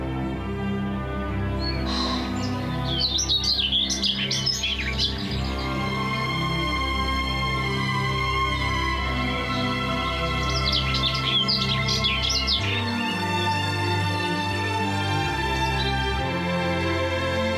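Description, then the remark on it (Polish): Two bursts of bright, twittering birdsong rise over a steady, sustained musical background, the first early on and the second about two-thirds through, each lasting a couple of seconds. “I wprawdzie ptaki sobie pewnie z tego nie zdają sprawy, ale jest to element uwodzenia dam. Śpiew ptaków.”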